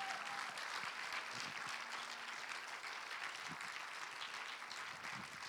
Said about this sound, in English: Now let's give the Lord a clap offering for that.